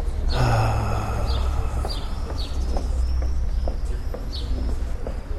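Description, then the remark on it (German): Birds chirp in short, high bursts every second or so over a steady background hiss and low rumble, with no one talking. “Reicht eigentlich, das Vogelzwitschern zu haben, oder?”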